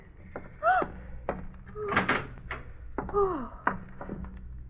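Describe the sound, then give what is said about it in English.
A room door swings open with a long, drawn-out creak, punctuated by a few sharp clicks and knocks from the latch and hinges, moderately loud. “Open the room door”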